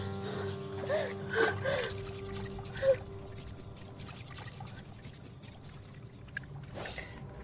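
A person sitting at the edge of a pool washes a hand in the pool water, with soft swishing, splashing and sloshing and scattered drips continuing throughout over a faint sustained tone early on.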